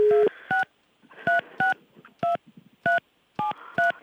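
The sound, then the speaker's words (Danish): A phone number is dialed by keypad to call a woman: a rapid series of about nine short, clear touch-tone beeps in an uneven rhythm, following a brief dial tone, with faint background noise between presses. “prøv at se, om vi kunne give Sara et kald, og så se, om hun ikke tager telefonen”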